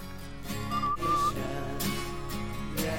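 whistling melody

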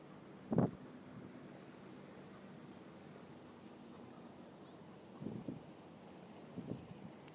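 boat passing

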